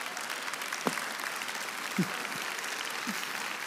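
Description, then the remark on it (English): An audience with the lights turned off gives God a round of applause, clapping steadily in a dense wash, with a few stray louder claps or vocal bursts poking through. “You may go ahead and turn off your lights and give God a huge round of applause with that.”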